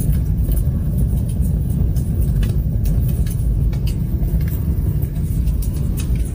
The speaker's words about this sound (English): A New York City woman took her car to get fixed because she kept on hearing a crackling sound. It sounded a little bit like this.